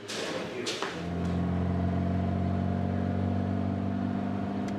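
A car engine hums steadily with a low, constant drone after a couple of brief thumps at the start, like a vehicle cruising along at an even speed.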